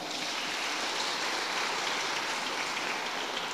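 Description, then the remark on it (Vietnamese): A big round of applause from a crowd, dense and steady, with many hands clapping at once in a continuous crackling roar that holds its loudness throughout, with no voices. “Nếu ai đã từng xem cái này giơ tay lên khá nhiều, cho một tràng vỗ tay thật là lớn.”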